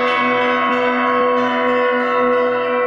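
Church bells ring loudly, their rich overlapping tones sustaining continuously, with fresh strikes joining roughly every second and no voices present.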